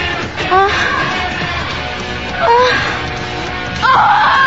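A woman lets out three loud, high-pitched screams in quick succession, each a short rising cry, over a steady rumbling background with no clear speech.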